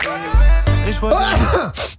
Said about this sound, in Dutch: Oh shit, je hebt de plaat uitgeniest. Oh, niet weer. Niet weer.